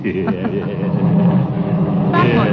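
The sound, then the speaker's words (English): A car engine runs steadily, giving a loud, continuous low rumble with a faint tonal hum that doesn't let up, and a brief brighter hiss rises over it near the end. The car is steaming because it is out of water. “What's wrong with the car? The car? It's steaming.”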